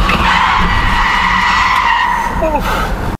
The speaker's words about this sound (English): And he made a beeline straight into the valet area and ran right in front of my moving truck. Whoa, that was close. I hit that brake so hard.